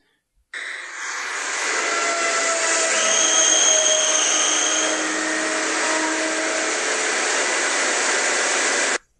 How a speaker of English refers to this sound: Those are fusing atoms